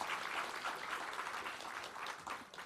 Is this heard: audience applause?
yes